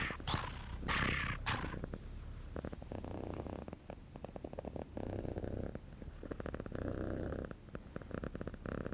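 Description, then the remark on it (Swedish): A cat purrs, a steady low rumbling vibration that swells and shifts as it alternates between inhaling and exhaling, with a few breathy hissing bursts at the start. “Ett av de ljud som väldigt konsekvent görs på inandning är just kattspinnande. För att det är varannan in, varannan ut, så att säga.”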